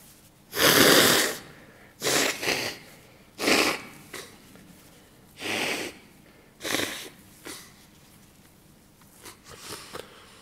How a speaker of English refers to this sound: And that's my anapanasati, breathing in, breathing out, let go. So don't do that.